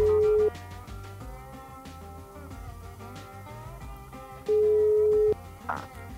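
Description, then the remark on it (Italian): A telephone rings twice, each a steady electronic tone about half a second long and a few seconds apart, played loudly over continuous background music with no talking. “vabbè, dopo lo squillo.”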